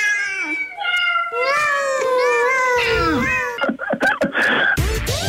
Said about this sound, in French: Qu'est-ce que c'est, là? C'est des chats, voyons. Ah, oui.